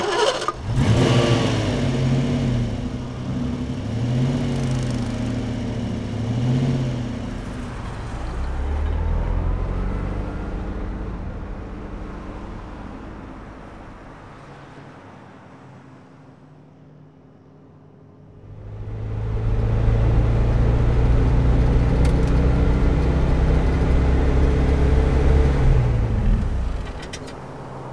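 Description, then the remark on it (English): A tour van's engine cranks and starts, idling with wavering pitch, then fades lower before a loud surge of revving as the van pulls away to hit the road, the engine roaring steadily. “For most of our tour, we will travel in vans.”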